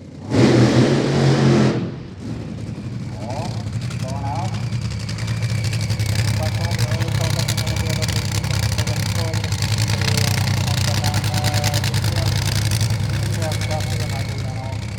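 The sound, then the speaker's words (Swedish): A Top Fuel dragster engine starting up in the pits opens with a sudden, loud blast, then settles into a steady, heavy rumble with a deep low drone and a rough rasp. Indistinct voices are mixed in throughout. “Det hörs redan på dånet i depån när de startar.”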